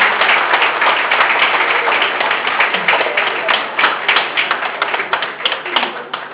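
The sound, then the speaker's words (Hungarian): A crowd breaks into sustained, loud applause for a guest, a board member of the Nógrád County Red Cross, a dense crackle of many hands clapping steadily for several seconds, with individual claps standing out more toward the end. “Egy nagy tapsot szeretnék neki kérni.”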